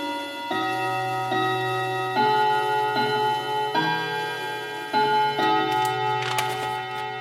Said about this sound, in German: Die Wanduhr im elterlichen Wohnzimmer spielt die Melodie »Üb immer Treu und Redlichkeit«.